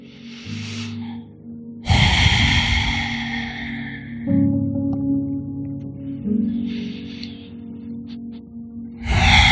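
deep breathing

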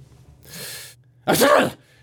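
sneeze

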